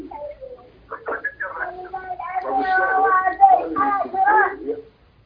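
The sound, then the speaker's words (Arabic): High-pitched children's voices chatter and babble in the background of a caller's phone line to a TV program, for about five seconds, overlapping and fairly steady in loudness, with no clear words standing out. “وقت صوت العيال برضه.”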